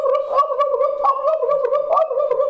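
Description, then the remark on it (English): A voice imitates a wild turkey's morning gobble: a steady, rapid gargling warble for a couple of seconds, holding an even mid pitch with a couple of brief upward jumps. “If you guys haven't been out west, that's exactly how they gobble in the morning.”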